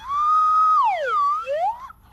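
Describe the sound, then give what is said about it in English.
A slide whistle plays a single sustained tone, then glides down smoothly and swoops back up in pitch, fairly loud, with no voices over it. “Oh, it's a slide whistle.”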